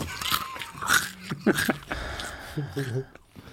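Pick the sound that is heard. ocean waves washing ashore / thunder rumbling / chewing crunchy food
chewing crunchy food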